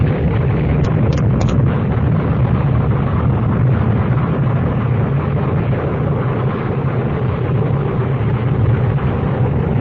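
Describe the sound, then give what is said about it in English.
A loud, sustained explosion of built-up gases roars and rumbles without letup for about ten seconds, a dense wall of low booming noise with no voices. “Professor come by earlier and set up the explosion?”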